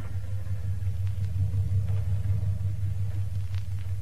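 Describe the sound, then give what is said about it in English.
A car engine idles with a steady, low rumbling hum that holds even throughout, with a few faint clicks and light knocks over it and no voices: a lawyer's car at the front door of the Lancaster estate in a suburb, as a woman gets out. “At the front door, Mrs. Lancaster is just getting out of her lawyer's car.”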